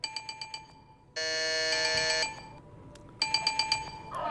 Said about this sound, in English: It was with great astonishment and with a strange dread that as he looked, he saw this bell begin to swing. Ding, ding, ding. soon it rang out loudly. And so did every bell in the house.